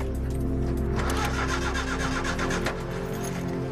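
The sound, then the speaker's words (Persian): A car engine cranks in a quick, rhythmic churn for a couple of seconds without catching, then stops, leaving a low steady hum. It's fairly loud, with no one speaking. “این ماشین بنزین زدی بهش یا نه؟”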